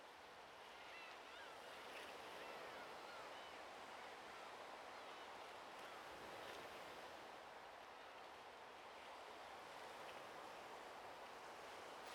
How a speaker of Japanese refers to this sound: もう少しだけ、波の音を聞きましょう。